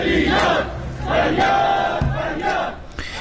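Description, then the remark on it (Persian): A crowd of retirees protesting in front of the retirees' Islamic cultural organization in Rasht, Iran, shouts together in loud, rhythmic bursts of chanting, many voices rising and falling in unison with brief dips between phrases. “خوب بهمن ماه 1400 جلوی سازمان فرهنگی اسلامی بازنشستگان رشت برای اتاق حق خودشون تجمع کردن و نارضایتی خودشون از این مظلوم که به جامعه بازنشستگان رواده شده فریاد بزنید.”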